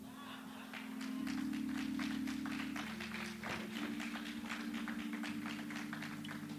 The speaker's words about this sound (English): So as they do in the graduation, too late to say hold your applause. Y'all already did that.